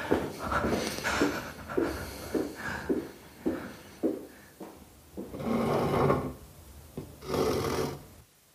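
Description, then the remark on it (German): A wooden chair scrapes and bumps across the floor in a series of short rasping pushes as it is pushed into place, followed by two longer dragging scrapes, with no one speaking. “Sie hörten, wie ein Stuhl zurechtgerückt wurde.”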